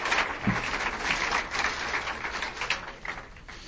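An audience at a Christian church service applauds to welcome newcomers, a steady, dense crackle of many hands clapping that holds at an even, moderate level for a few seconds, with no voices over it.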